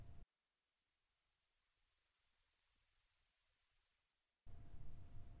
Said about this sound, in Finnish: Heinäsirkan siritys on hyvin korkeataajuista. Vanhemmat ihmiset, jotka eivät kuule korkeita ääniä, eivät heinäsirkan ääntä enää kuule.